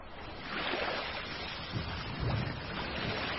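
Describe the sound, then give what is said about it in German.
Sea waves wash steadily around a boat moving on open water, a broad continuous rush with occasional low thumps and gusts of wind, moderately loud, no voices. “Die Soldaten bestiegen ein Boot und fuhren zum schwimmenden Felsen hinüber.”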